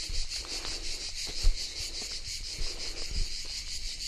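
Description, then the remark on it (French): Cicadas chirring in a steady, dense high-pitched drone that pulses rhythmically throughout, with a couple of soft low thumps in the background and no voices. “Je ne sais pas quel est le mot précis pour les cigales.”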